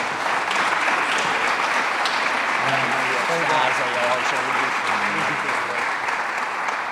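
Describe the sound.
Sustained applause from an audience for a group of people honored with gifts for their teamwork, a dense, steady wash of clapping that stays loud for about seven seconds, with faint voices murmuring underneath partway through.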